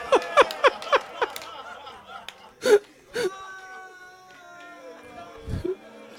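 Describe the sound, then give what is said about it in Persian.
Several mourners at a religious mourning gathering (majlis) weep and sob together, with rapid broken gasping sobs at the start, then a couple of louder wails, settling into quieter sustained crying and a low moan near the end. “اون داستان باشه طلبتون، حالا که داری گریه میکنی رفتیم در خونه بی بی بریم دیگه.”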